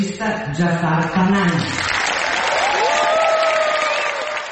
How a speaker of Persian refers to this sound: سالن اصلی جشنواره فیلم ونیز به احترام آقای پناهی ایستاده به تشویق او پرداخت.